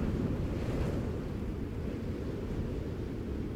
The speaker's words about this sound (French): Un gris mélancolie, teinté d'orage, étincelle en éclats d'écume au bout des vagues, en fin de monde. Et le vent, encore, fidèle compagnon de solitude, il bat les flots depuis si loin que ses rumeurs sont d'une autre langue.